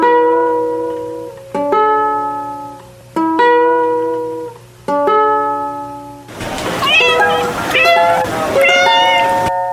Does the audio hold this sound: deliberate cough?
no